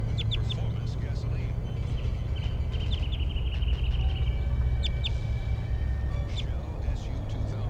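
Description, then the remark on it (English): A wild orange male bird, sitting on a telephone wire above a road at an animal behavior station, gives short, high chirping calls in scattered bursts, including a brief trill, over a steady low rumble of background noise. “It's an orange male. He's calling weekly, stronger now.”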